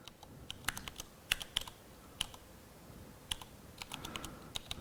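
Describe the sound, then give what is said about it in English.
Keys clack on a computer keyboard as someone types into an empty file in Vim, in irregular bursts of sharp taps with short pauses between clusters, fairly quiet and with no voices. “So for example, if I would go here and an empty file, and I would start typing like, why is nothing appearing on the screen?”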